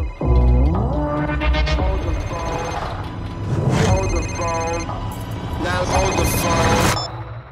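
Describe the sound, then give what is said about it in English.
An old cell phone, found by Steven in the Moon Knight show trailer, rings with a melodic electronic ringtone, a loud, steady run of bright tones that keeps going without pause for several seconds. “And then at one point, Steven also discovers an old cell phone.”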